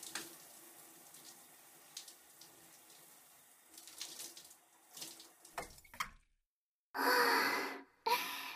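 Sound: shower water running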